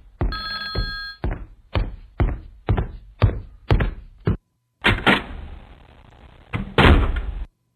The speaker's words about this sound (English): I had to open the door and close it. I'm walking back.